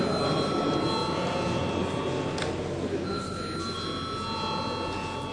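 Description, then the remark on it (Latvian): A chamber bell in the Latvian Saeima rings continuously and steadily at moderate loudness before a vote, its sustained metallic tone over a low murmur of background voices. “Lūdzu zvanu.”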